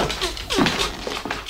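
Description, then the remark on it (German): A dog, Timmy, sniffs at a door in quick, breathy bursts and lets out a short, falling whimper partway through, at a moderate level. “Timmy, hör sofort auf an der Tür rumzuschnüffeln.”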